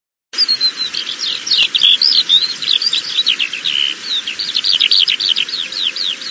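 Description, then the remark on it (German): A Eurasian skylark pours out a continuous, rapid stream of high, twittering and trilling notes, steady throughout, over a faint low background hum. “Die Feldlerche ist ja auch ein ganz toller Vogelgesang.”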